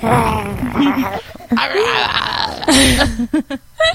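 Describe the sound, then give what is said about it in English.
A voice with an uncleared throat, trying to agree by saying "mm-hmm", produces an awkward, croaky growl stretched into several drawn-out, wavering vocal bursts, ending in short, choppy laugh-like breaths. “And she looks at me, and I was like, I wasn't growling at you or her. I was just trying to say, it was such an awkward noise.”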